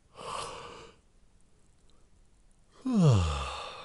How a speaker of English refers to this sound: I hope my yawn is infectious.